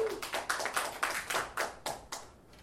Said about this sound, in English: Ladies and gentlemen, give our mayor a big round of applause.